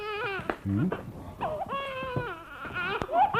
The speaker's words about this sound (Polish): O, zaraz, zaraz. Nie płacz, maluchu.